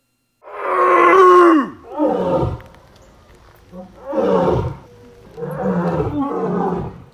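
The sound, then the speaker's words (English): A lion gives a run of four deep, throaty oofing greeting calls, each a loud grunting burst about a second long that drops in pitch, separated by short pauses, at a big cat enclosure of an exotic animal facility outside Burlington, North Carolina, on a misty morning after a tour guide gets its attention. “That's called oofing, and it's how lions greet each other.”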